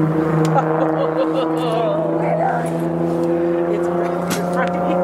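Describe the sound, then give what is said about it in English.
A steady, droning rumble of car engines fills the scene without pause, loud, with faint murmuring voices mixed underneath. “I think probably the sound of these cars is scaring.”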